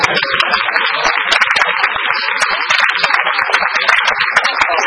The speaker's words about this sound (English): Brothers and sisters, let's give them applause.